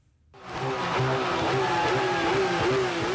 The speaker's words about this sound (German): Attila Hildmann ließ den Motor seines schweren Sportwagens aufheulen. Am vergangenen Samstag fuhr er am Berliner Dom vor.